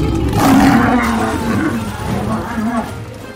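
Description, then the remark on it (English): A lion lets out a loud, drawn-out roar lasting a few seconds, deep and rumbling with a rough, growling edge, unaccompanied by talk. “I want a real live lion! Her parents got her a lion, but then it ate her favorite servant.”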